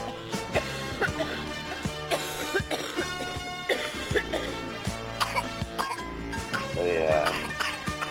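Someone smoking weed coughs repeatedly in the background, short rough bursts with some throat clearing, scattered throughout over a dense, steady bed of sound. No one speaks.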